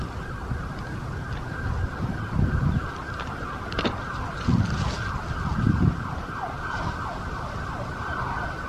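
A police car siren wails steadily over busy road traffic as it comes to the scene of an accident where two cars collided, its tone sweeping up and down while vehicles rumble past.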